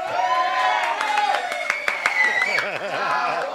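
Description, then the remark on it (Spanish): Scattered claps and applause greet a guest joining the table, ringing out over a lively mix of voices, with some high, wavering vocal tones like cheers or whoops, fairly loud throughout the few seconds. “Ahora sí aplauden.”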